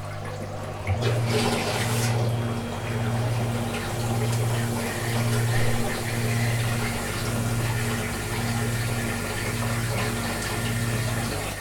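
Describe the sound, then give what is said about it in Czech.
A toilet flushes in a home with a water-recycling system, water rushing and draining steadily for several seconds with a low pulsing hum from plumbing underneath, no voices. “Alexandra spláchla. A teď co se děje v té bytové studni?”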